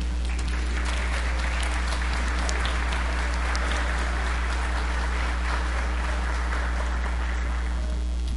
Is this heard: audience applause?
yes